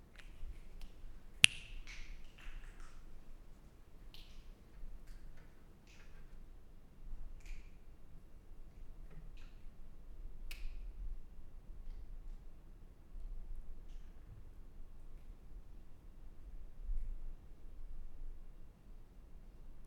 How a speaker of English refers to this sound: When you are done with your sonic reminiscing, gently snap your fingers next to your ears and open your eyes simultaneously to bring you back into the present time.